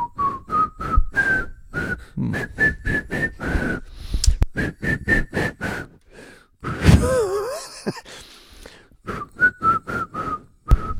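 A person whistles a song, a steady string of short, bright notes with a breathy, wavering stretch in the middle before the melody resumes.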